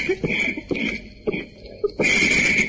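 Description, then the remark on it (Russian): Raspy, whistling asthmatic wheezes in a recording, over a crackly hiss, with several short rasping breaths in a loose rhythm and a thin high-pitched whine that swells louder near the end. “Когда вот через треск послушаешь первый раз вот эту запись, эти хрипы, знаете, такие астматические, противные, может просто стошнить.”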